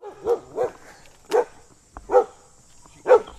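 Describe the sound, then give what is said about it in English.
A dog barks five times in short, sharp bursts at uneven intervals, fairly clear, at a small encampment in a pocket of trees in Burlington, with only faint background noise between the barks and no talking. “along with his dog Sadie and five other people, live at a small encampment in Burlington”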